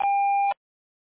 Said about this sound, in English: Please leave a message at the tone, and we will get back to you as soon as possible.